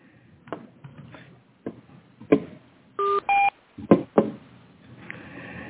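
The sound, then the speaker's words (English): A conference call join tone as a phone participant enters the call during a public hearing: two short electronic beeps in quick succession, each a steady dual pitch, surrounded by scattered clicks and thumps over a thin, phone-line hiss. No one speaks. “Hi, who just entered the call?”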